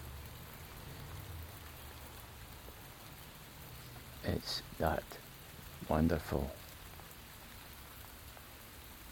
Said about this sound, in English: straight down rain, no wind, and it's very mild. Not hot, not warm, but very mild.